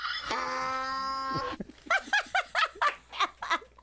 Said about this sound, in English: I'm waiting for that donkey to shut up. I lost my place.